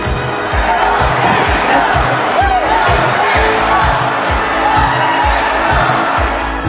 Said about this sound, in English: This is the Canadian Tire Center. Quiet, peaceful, serene. That is until the Ottawa Senators come to play. Luckily, they have some great fans to cheer them on.